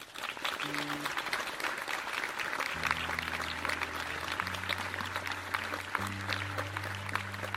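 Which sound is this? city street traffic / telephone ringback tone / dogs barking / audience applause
audience applause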